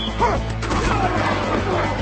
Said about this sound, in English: And listen to this crowd right now. How long has it been since we've heard that?